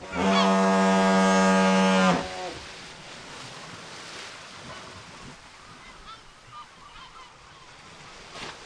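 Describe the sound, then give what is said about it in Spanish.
A single loud, deep foghorn blast from a coastal sound lighthouse, used to guide on foggy days, holds steady for about two seconds, then cuts off, leaving a soft wash of surf and open-air ambience. “Un claro ejemplo puede venir representado por nuestra costa, que ha ido dejando de lado el ambiente creado por el agua y las aves marinas para dar paso poco a poco a los primeros faros sonoros que en los días de niebla nos orientaban.”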